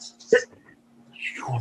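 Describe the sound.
A single short, sharp sneeze bursts out after a brief breathy intake, followed a moment later by the start of someone speaking.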